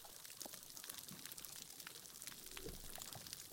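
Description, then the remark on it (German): Quiet underwater ambience of a bleached coral reef whose corals have died, with few fish left: a soft, steady hiss of water dotted with faint scattered clicks and crackles, sparse and low, with no voices. “Das sind die Korallenriffe nach einer Bleiche, wenn die Korallen abgestorben sind und da deshalb auch nicht mehr so viele Fische schwimmen.”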